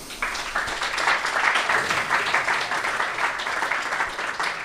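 A small audience applauds politely, a steady patter of many overlapping hand claps at moderate volume that continues evenly for several seconds with no voices.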